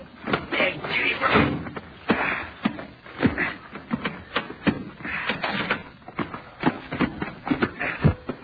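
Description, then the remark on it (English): A door is handled and opened amid shuffling footsteps and scraping movement, with irregular knocks and bumps over several seconds. “Now, let me out and I'll open the door.”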